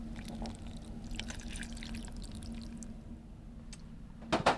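Half a cup of water is poured steadily onto chocolate in a small saucepan, for a chocolate mousse, over a low background hum, with soft liquid splashes and a brief louder clatter near the end.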